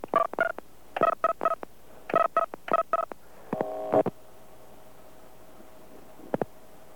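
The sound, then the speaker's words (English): Touch-tone keypad dialing of the AT&T carrier access code 10288 and a California number from New York: a rapid run of short dual-tone beeps in quick clusters, a slightly longer lower tone near the end, then a final brief pair after a pause. Clear, no voices. “Dialing 10288 for the AT&T carrier access code.”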